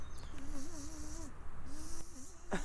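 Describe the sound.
A voice imitates a mosquito's whine with a thin, wavering hum, in two drawn-out stretches separated by a short pause. It is steady, with faint background noise.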